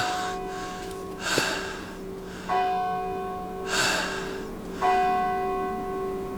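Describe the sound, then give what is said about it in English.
A clock bell in Holborn tolls the hour over deserted streets in slow, evenly spaced strikes, each ringing on with a long humming decay. Breathy gasps or snorts are heard faintly between the strokes. “Is that it? What? No more chimes?”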